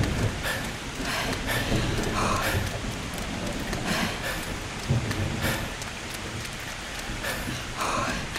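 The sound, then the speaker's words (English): Heavy rain pours steadily, a dense hiss with low rumbles of thunder rolling underneath throughout, and no voices. “Clouds look angry, like it's about to rain. Let's run.”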